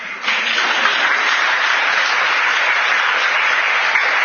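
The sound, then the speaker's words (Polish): An audience bursts into applause, a dense, steady wash of many hands clapping that starts abruptly and holds at an even, loud level for several seconds with no talking. “Brawo na odkupiciela.”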